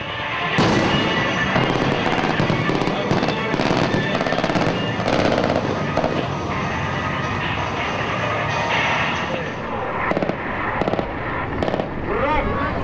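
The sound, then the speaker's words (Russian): Artillery fire from a tactical group of missile boats making an artillery attack, in a combat display staged before spectators, crackles and booms in rapid, overlapping bursts, loud and dense for the whole stretch, with sharp reports piling onto a rumbling wash of sound. “Теперь в игру вступила тактическая группа ракетных катеров, которые переходят в артиллерийскую атаку.”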